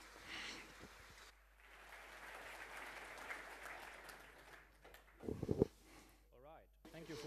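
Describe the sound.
An audience applauds a speaker being introduced, a steady, dense patter of clapping lasting a few seconds, then it fades out as a few louder thumps and a voice begin speaking.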